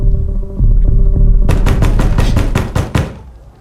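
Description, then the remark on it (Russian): A low, steady hum gives way to a rapid run of about nine loud knocks on a door, evenly spaced, with the hum continuing underneath. “Опять в дверь стучат, опять он с ножом.”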